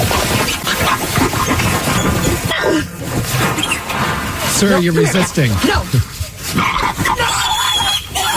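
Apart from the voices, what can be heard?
pig squealing and grunting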